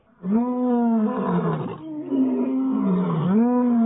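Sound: lion roaring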